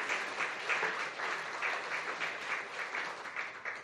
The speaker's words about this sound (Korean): 큰 박수로 네, 격려해 주시기 바랍니다.